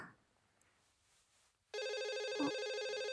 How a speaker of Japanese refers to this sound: 電話フロントからですかね。 出ますね。